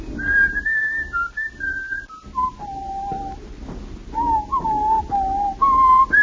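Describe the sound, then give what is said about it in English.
A man whistles a melody down by the waterfront, a clear pure tone stepping through a series of held and gliding notes, fairly loud, with no talking, over a low background rumble. “Then he breaks forth into a whistle.”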